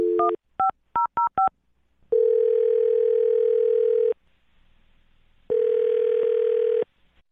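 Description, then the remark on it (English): A quick series of keypad dialing beeps as a man is called on the phone, then two long, steady ringback tones of the outgoing call, separated by a short pause. The tones are clear, with no voices. “Well, I'll call him right now, see if we can get him on the phone and get your answer, okay?”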